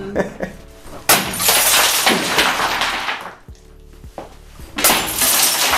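Loud glass smashing at a destruction-therapy rage room in the centre of Maribor: several sharp shattering crashes in quick succession, with tinkling debris trailing after each, and a brief voice audible during a quieter moment between impacts.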